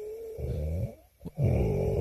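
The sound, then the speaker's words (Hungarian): Loud snoring in two long drawn-out breaths, a rough rumbling inhale and exhale separated by a brief quiet gap with a short snort, with a faint whistling wheeze riding on top. “Ez akkor befele, kifele, és így horkol.”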